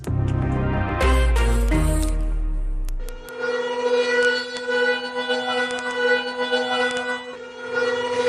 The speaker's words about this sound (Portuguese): As sirenes soaram durante 3 minutos nesta noite pelo horário local na Indonésia, na hora exata em que o tsunami atingiu o país, há exatamente 20 anos, após um terremoto de magnitude 9,1.